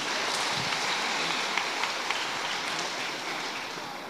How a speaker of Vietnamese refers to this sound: Cho một tràng vỗ tay đối với mười mấy người này nào.